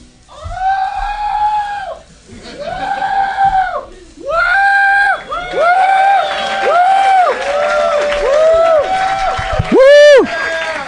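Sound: audience cheering and yelling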